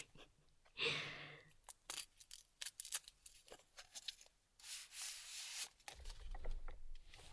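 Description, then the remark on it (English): Crisp crinkling and rustling of a paper straw being handled, with scattered sharp clicks and scrapes, a longer brushing swipe midway, and a low thump near the end. “I have this paper straw here.”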